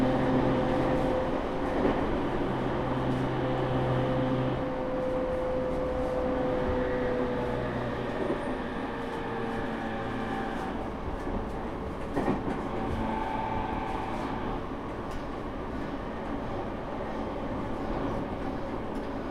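Steady rumble of a Sotetsu line commuter train bound for Yamato, stopping at every station and approaching Kibogaoka station, heard from inside a carriage, with continuous low-frequency roar, faint tonal whines, and occasional rattles and clacks from the wheels over the track.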